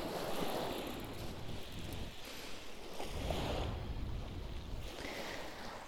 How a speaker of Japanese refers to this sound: なんか久々に海を見に来たら、海入れそうなくらいあったかいし穏やかだし、 やっぱり海のある生活はいいですね。